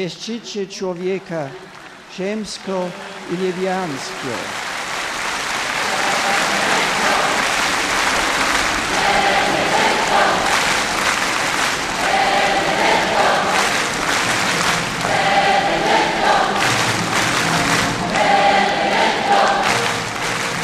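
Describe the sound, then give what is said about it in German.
A voice speaks briefly at the start, then a large crowd in Kraków bidding farewell to Pope Benedict breaks into sustained, loud applause with cheering and shouts of "Benedetto" that continue steadily to the end. “Anhaltender Applaus, lachende Gesichter und Benedetto-Rufe, ein Meer aus winkenden Fahnen.”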